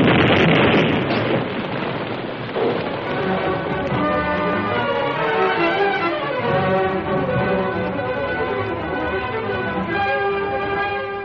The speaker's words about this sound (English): Yeah, we heard the explosion.